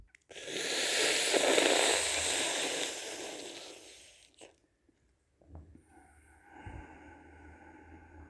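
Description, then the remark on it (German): A long, loud hissing inhale drawn through the mouth in a cooling breathing exercise, airy and slurping, lasting about four seconds, followed by quieter breathy sounds and faint noises. No one speaks. “Umso mehr schlürfend es sich anfühlt oder anhört, umso mehr kühlend wird es sein.”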